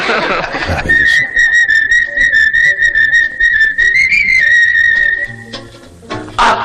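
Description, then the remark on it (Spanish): A clear whistled tune carries a lilting melody for about five seconds, steady and fairly loud, with brief bursts of noisy background sound before and after it. “Bueno, si no les gusta, no se molesten en silbar, porque para eso ya estamos nosotros.”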